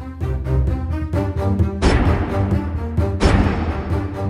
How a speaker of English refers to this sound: He immediately ordered the men to fire the cannons.